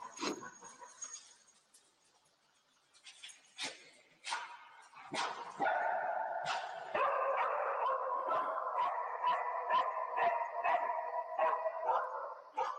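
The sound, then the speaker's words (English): A dog in a played video barks repeatedly, a few scattered barks at first, then a steady run of quick barks over a sustained whining, howling tone. It is fairly loud, with no talking. “I'm telling you, that doggo knows he's getting a treat.”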